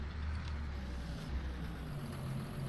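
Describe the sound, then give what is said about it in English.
A heavy diesel tractor engine idles steadily, a continuous low rumble with a faint mechanical whine above it and no voices. “Alright, leave the tractor right here. Shut her off.”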